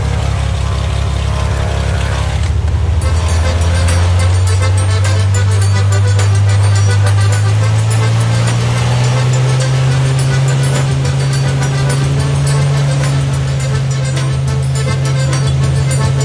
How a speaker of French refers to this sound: Voilà, à bord de ce petit avion... On s'en va, on s'envole vers le sud-est du Venezuela, vers une région qui s'appelle la Grande Sabana. Exactement, on va à Canaima.